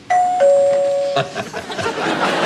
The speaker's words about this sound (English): But look at this. This button right here is like a doorbell. You use it to get people's attention.